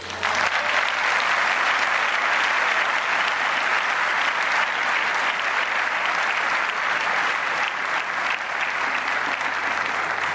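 Sustained applause from a large audience, a dense steady wash of clapping hands that stays loud and even for about ten seconds, with no one speaking over it.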